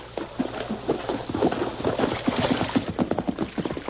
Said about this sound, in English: Hey, I hear a horse. Yes, it's Tonto. Oh, great. Riding downstream so he won't leave tracks to our camp.